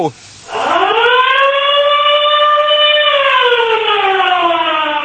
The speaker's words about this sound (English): Maybe we can play that, our siren sound. We can all duck and cover.